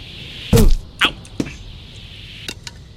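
Several sharp impacts land in an uneven sequence, a loud thudding hit first, then quicker whistling thwacks, like arrows from an automatic self-firing trap striking, with no talking.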